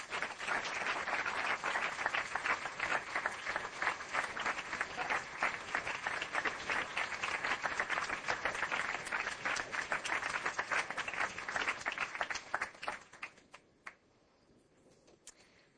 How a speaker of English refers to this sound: should give another round of applause for all those commitments.